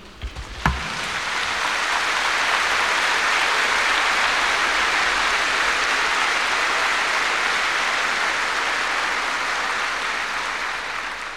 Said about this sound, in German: Euer Beifall hat gezeigt, das klang ja ganz anders.